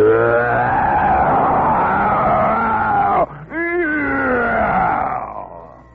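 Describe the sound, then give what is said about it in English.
A race car, running on castor oil and high-octane gasoline, roars around the track on test laps. Its loud engine whines steadily, dips briefly partway through, then surges back with rising pitch sweeps before fading at the end. “he roared around the track, and we stood and watched with our eyes as big as tennis balls.”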